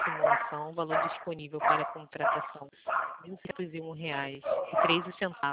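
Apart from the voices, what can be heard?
dog barking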